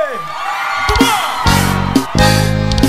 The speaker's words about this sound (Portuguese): gostando, dá um gritão aí!